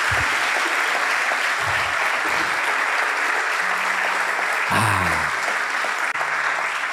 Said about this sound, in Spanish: Eso merece un aplauso, ¿no?